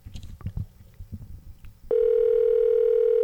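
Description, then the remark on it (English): After a second or two of muffled handling noise, a loud, steady electronic ringback tone comes over the phone line as a call is placed to a listener at home, and holds unbroken to the end. “Okay, it's ringing.”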